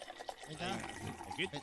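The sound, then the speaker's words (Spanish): Liquid is poured into a glass for a toast in a short burst, with a gurgling fill that rises slightly in pitch, while voices murmur. “Ponme un poquito más. No se puede brindar con agua. No, el agua para ti. A ver, échame.”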